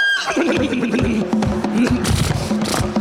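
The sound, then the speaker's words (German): A coach horse whinnies in a loud, wavering, continuous cry over about three seconds as the coachman hurries the horses on, with sharp clattering knocks scattered underneath. “Und die Pferde beeilen sich!”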